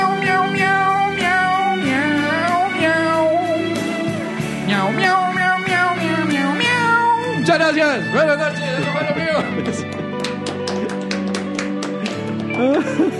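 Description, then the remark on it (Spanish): Several voices repeatedly imitate cat meows, loud, their sliding, drawn-out cries overlapping in a rough rhythm over a dense, continuous background. “Miau, miau, miau, miau, miau, miau. Miau, miau, miau.”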